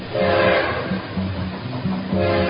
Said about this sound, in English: Swap Shop trains a-coming, rolling down that free market track.